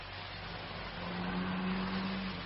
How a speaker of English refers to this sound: That car, did you hear it? What car? It was as if someone was signalling.